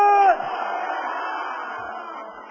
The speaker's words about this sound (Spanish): Vamos a dar 7 gritos de guerra, ese es el primero.